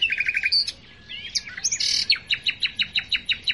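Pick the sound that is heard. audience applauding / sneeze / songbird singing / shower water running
songbird singing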